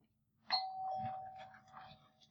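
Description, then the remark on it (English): A doorbell rings once with a bright electronic chime that holds a steady tone for over a second, then fades under some faint background murmur. “We got a doorbell.”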